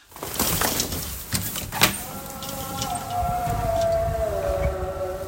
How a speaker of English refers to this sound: I hear some background noise. Is that a siren or someone playing music? It's the muezzin. What's that? The call to prayer.